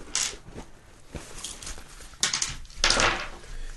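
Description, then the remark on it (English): Dice clatter and rattle in a few quick bursts as they are handled, with scraping and clicking between them and no voices. “take a look at some of these dice”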